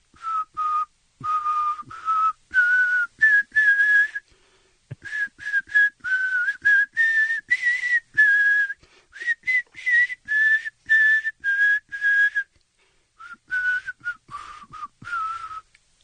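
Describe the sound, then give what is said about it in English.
Someone whistles a song melody for listeners to guess its title and artist, a steady string of pitched phrases with brief pauses between them, the melody rising and falling for about sixteen seconds with no talking. “whistling a song that you'll hear on night number two if you win tickets.”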